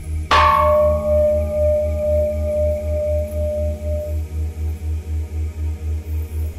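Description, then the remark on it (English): A gong is struck once with a sharp, loud hit, its ringing tones slowly fading over about four seconds, while a steady, pulsing low hum throbs underneath throughout. “Sorry for the gong there.”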